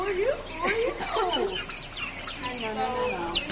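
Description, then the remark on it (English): A crowd of young turkeys, about three weeks old, peeping and chirping, their high, overlapping calls forming a dense, continuous chorus throughout. “These turkeys are about 3 weeks old.”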